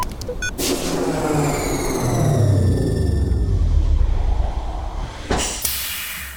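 A sharp crack of thunder from lightning, made by air heated very hot, opens into a long, heavy rolling rumble that swells and sustains for several seconds, with a second burst near the end. No voices.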